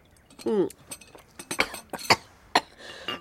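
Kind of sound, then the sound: human body sound, cough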